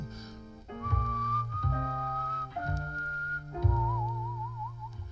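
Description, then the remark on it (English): A wavering, whistled melody floats over steady backing instruments playing sustained chords that change every second or so, with a slight vibrato on the final held note. “trampling a rosebush, whistling to himself.”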